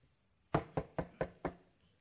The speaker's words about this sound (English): I'm just talking about the fact that it's always knocking on my door.